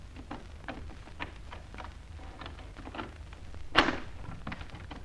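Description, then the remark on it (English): A door is opened with a single sharp clunk near the end, rising out of a quiet, faintly rustling background. No one speaks. “Here's another door.”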